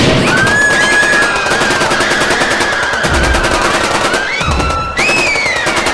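Loud, sustained automatic gunfire rattles in rapid, relentless bursts, fired indiscriminately into the crowd in the main hall of VT station in Mumbai at about 11:30 at night, with high wavering tones rising and falling above the shots.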